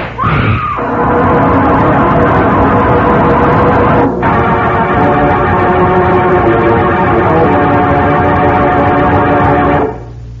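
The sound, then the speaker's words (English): A sharp gunshot cracks at the start, then the deep-voiced bell of Kulhumi, hidden under a coat, rings out in loud, rich, sustained tones for about ten seconds, with a brief dip midway, before cutting off abruptly. “I had the deep-voiced bell hidden under my coat, while Rhoda had Agmar in that scarf around her neck.”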